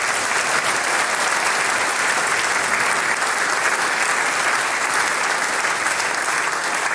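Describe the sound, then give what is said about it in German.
Sustained, dense applause from an audience for visiting musicians from Kärnten, a steady wash of many hands clapping at an even, fairly loud level for the full seven seconds with no voices standing out. “Applaus für euch.”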